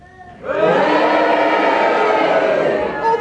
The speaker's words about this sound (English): Cheering for the justice of the woman.